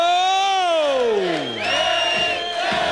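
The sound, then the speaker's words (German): A concert audience at Lewis's 1964 comeback cheers loudly and continuously, a dense roar of shouting with one strong yell that slides steadily down in pitch before the crowd noise carries on. “1964 ist Lewis mit voller Wucht wieder da und das Publikum reagiert enthusiastisch.”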